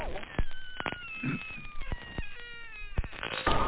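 A cat gives a long, drawn-out meow with wavering pitch, fairly loud, over a busy background of sharp clicks and thumps.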